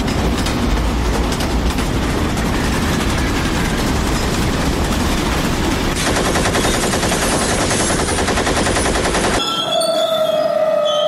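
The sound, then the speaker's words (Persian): A heavy barrage of automatic gunfire rattles on loudly and continuously, dense rapid shots blurring together, before cutting to a brief steady whining tone at the end. The gunfire targeted and stopped the Jaffar Express train in Balochistan, Pakistan, travelling from Quetta to Peshawar. “بر پایه بیانیه دولت ایالتی بلوچستان، قطار جعفر اکسپرس راه آهن سراسری پاکستان در حالی که از مبدأ کویت عازم پیشاور بود، هدف رگبار سنگین گلوله قرار گرفت و متوقف شد.”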